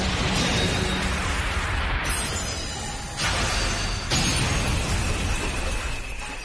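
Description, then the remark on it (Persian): Fairy's spinning top, a home-built top inspired by Bell's, explodes with one hit in an explosive finish that wins the battle: a loud, dense burst of crashing, shattering noise that fills the whole stretch, with abrupt surges and shifts partway through and no voices. “با یه ضربه منفجر شد فیری.”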